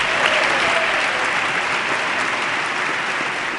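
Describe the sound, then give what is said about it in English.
Sustained applause from a large audience for the retiring Associate Justice Sandra Day O'Connor of the United States Supreme Court, a dense steady wash of clapping that stays loud and even throughout, with no voices standing out above it. “And a big round of applause for the retiring Associate Justice, who is now succeeded by Justice Alito on the United States Supreme Court.”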